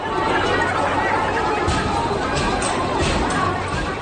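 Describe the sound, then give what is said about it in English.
A dense, noisy crowd of anti-government protesters in Hong Kong roars and chatters continuously as water cannon and tear gas are used against them, with overlapping shouts and a steady wash of agitated voices filling the scene without a break. “Water cannon and tear gas being used against crowds of protesters on the 15th straight weekend of anti-government action.”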